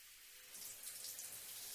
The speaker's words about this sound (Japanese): それでは頭流しますね。